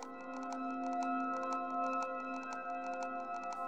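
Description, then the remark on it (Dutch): A giant clock built to run 10,000 years, made with steel gears, titanium axles, ceramic bearings and quartz and sapphire discs, with no springs, pendulum, battery or plug, ticks in a fast, steady rhythm of crisp clicks over a sustained, humming tonal drone that runs throughout. No one speaks. “Want deze klok gaat niet enkele jaren tikken, maar 10.000 jaar.”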